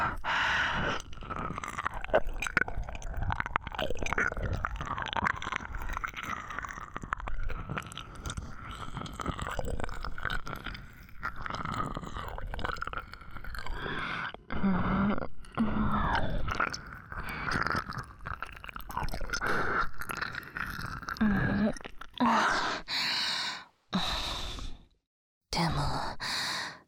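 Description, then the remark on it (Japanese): Continuous wet, smacking ear-licking sounds along the rim of the ear, with soft slurps and clicks, steady and close-miked in ASMR style, punctuated by breathy sighs, with a few brief pauses near the end. “主人様は耳の縁をペロペロされる方が好きっぽいですね。”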